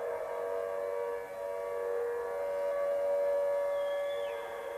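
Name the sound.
civil defense siren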